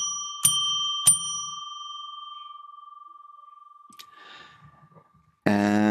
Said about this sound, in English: Let's move the microphone a little bit over here, and I will now ring a bell 3 times, as is my habit, to declare sacred space.